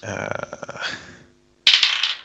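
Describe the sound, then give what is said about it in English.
Dice rolled for a perception check in a tabletop role-playing game rattle and clatter across a hard surface in a quick run of sharp clicks that slow and fade, then after a short pause one more bright clattering burst. No one speaks. “Roll a perception check.”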